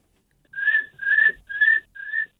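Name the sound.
person imitating cricket chirping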